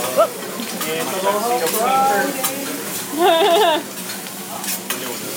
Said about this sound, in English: Oh, yeah, I can hear the... The crackling? Yep. Almost like frying bacon.